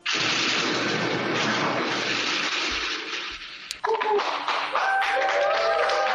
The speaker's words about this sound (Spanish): Pues flashes y aplausos cuando le ponen la vacuna.